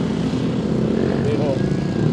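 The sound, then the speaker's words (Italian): Many motorcycles roar past a few metres from the tables in the outdoor area of a café on a sunny day, a loud, continuous low rumble with a brief rising whine partway through, mixed with indistinct murmuring voices. “Intorno a noi si muovono decine di persone, a piedi, in auto e poi molti motociclisti che evidentemente sfruttano la bella giornata di sole, passano rombando a pochi metri dai tavolini.”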